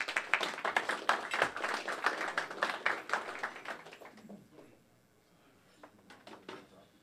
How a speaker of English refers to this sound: a warm round of applause for his first 8 minutes.